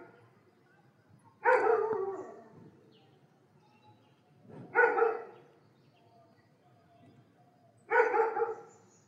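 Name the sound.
dog barking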